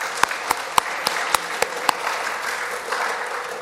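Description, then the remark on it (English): Audience applause: a dense wash of many hands clapping, with a few sharp, evenly spaced individual claps standing out at first before blending into steady clapping to the end. “So let's give Ron a big round of applause, too, for all of his work.”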